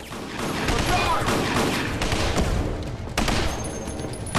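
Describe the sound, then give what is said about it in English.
A loud, sustained fusillade of gunfire in a scene from a drama: Jack Bauer advances shooting at Logan's guards by an armored vehicle and a guard shoots back. Rapid, overlapping shots crack in dense bursts for several seconds, with a few sharper reports standing out near the end. “Logan watches cravenly as Jack advances, shooting and disables the guard.”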